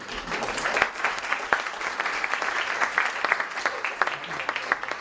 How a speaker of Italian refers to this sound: Non è vero, no, non sono fascista, anzi per dimostrarlo vorrei farvi fare un applauso ai partigiani. Un applauso.